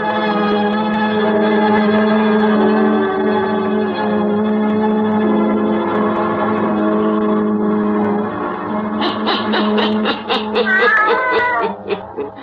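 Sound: black cat meowing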